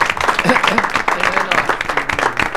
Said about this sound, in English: So we'll give them a round of applause.